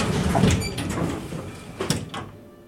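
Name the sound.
elevator doors opening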